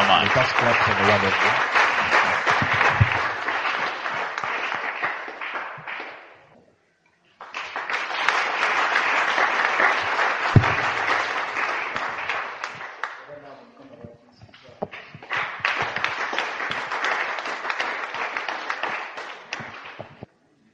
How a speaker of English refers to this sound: Let us clap for the word of God.